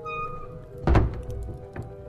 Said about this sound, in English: Shut the door, Nuzwik.